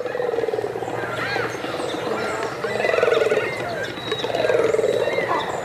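A dense chorus of harsh croaks and guttural grunts from a large colony of cormorants massed by the thousands on lake shores or sea coasts, many overlapping calls rising and falling continuously, some loud against a busy background din.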